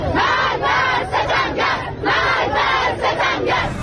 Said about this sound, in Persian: یک هفته پس از ریزش بخش‌هایی از ساختمان متروپول آبادان، معترضان همچنان در خیابان‌ها علیه فساد و سوء مدیریت مقام‌های جمهوری اسلامی شعار می‌دهند.